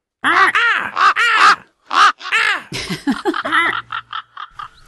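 A raven caws repeatedly, loud: several long, harsh, rising-and-falling calls, followed by a quicker run of short, clipped croaks. No one speaks.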